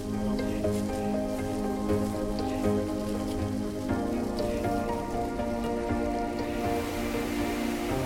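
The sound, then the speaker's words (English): Steady rain falls and patters on a surface in Kabardino-Balkaria, a continuous dense hiss with scattered drop taps and a low rumbling undertone, with no voices. “Shall we get out of the rain?”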